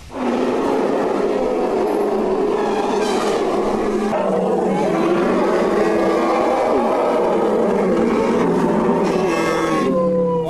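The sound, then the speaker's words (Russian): Loud, brassy trumpeting of Thai elephants at the National Elephant Day festival in Ayutthaya, Thailand, held at a local elephant village park where 75 elephants take part, rings out in overlapping blasts, several calls rising and sliding in pitch over a constant noisy background of a busy outdoor gathering. “В праздничном мероприятии в городе Аютхая участвуют 75 серых исполинов.”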